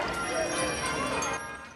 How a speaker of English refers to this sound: Apples tumble into a basket. He and the spirit are in a market.